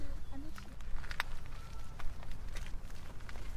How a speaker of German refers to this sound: Jedes Kind geht Schritt für Schritt einen schmalen Pfad entlang. Jedes für sich, Augen und Ohren weit geöffnet.